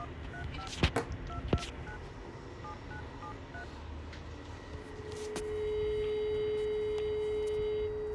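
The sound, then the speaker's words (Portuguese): A phone number is dialed to call about an alarm system, as a quick series of short, two-note touch-tone beeps, with a couple of sharp clicks, followed by a steady low line tone that holds to the end. “Estou ligando para perguntar sobre o alarme.”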